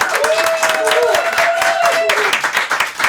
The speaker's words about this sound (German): aber erstmal einen herzlichen Applaus an unseren Gast